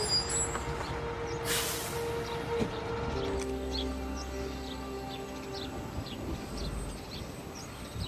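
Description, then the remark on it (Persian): A bus idles with a steady low engine rumble as it arrives, and a sharp hiss of air brakes bursts out briefly near the start. Faint chirps and street noise sit in the background. “اتوبوس اومد.”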